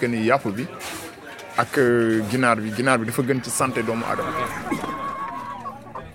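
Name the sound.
chickens clucking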